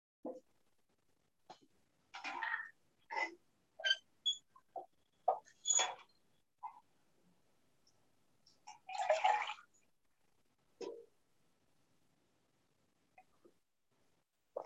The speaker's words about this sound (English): So let's draw some water from Jacob's Well.